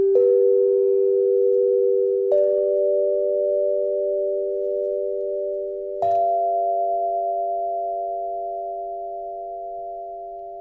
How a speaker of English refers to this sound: The beating that you're hearing is an individual tube, because unless it were perfectly round, you're going to get some beating because it's slightly oval. Mm-hmm. So one place on the tube is a little higher than the other one, mm-hmm.